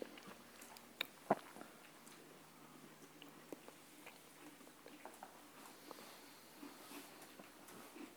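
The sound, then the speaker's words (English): Quiet crunchy biting and chewing, with scattered crisp clicks and crackles and one sharper snap near the start, over a soft background hiss. “This experience includes sights and crunchy sounds.”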